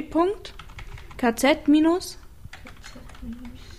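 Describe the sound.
Rapid clicking of keys as someone types a web address on a computer keyboard, fairly quiet, with a person speaking over the first half before the typing continues on its own.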